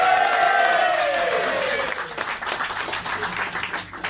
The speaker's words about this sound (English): Give this guy a round of applause.